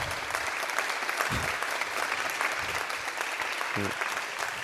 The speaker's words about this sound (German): Der Applaus müsste doppelt so stark ausfallen, weil die gute